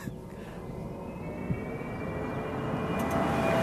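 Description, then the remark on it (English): An electric Jaguar's spacey pedestrian warning sound, designed to alert people to its presence at speeds below 20 km/h: a steady synthetic hum with faint sustained tones that slowly swell and rise in pitch, growing gradually louder with no voices. “The electric Jaguar's spacey sound is designed to alert people to its presence at speeds below 20 kilometres an hour.”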